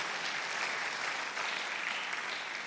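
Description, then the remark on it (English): A crowd claps steadily for Jesus, dense overlapping applause at an even level from start to finish, with no distinct voices standing out. “Come on, clap your hands for Jesus.”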